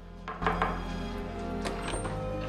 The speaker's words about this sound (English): Paul knocks at the door of a guest room.